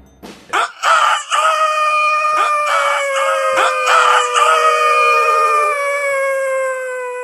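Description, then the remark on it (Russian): A rooster crows once, loud, in a long drawn-out cock-a-doodle-doo that holds its strained note for several seconds before trailing off, with no talking. “Хватил солдат его за бороду и до тех пор угощал тесаком, пока петухи не запели.”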